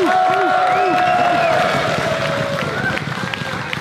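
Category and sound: crowd, crowd cheering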